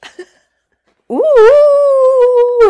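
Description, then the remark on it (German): A person imitates a dog's howl: one long, sustained, rising-then-steady wail lasting over a second, loud, after a brief quiet pause. “Soll ich das heulen? Ich kann da gleich anschließen. Also Heul doch mal.”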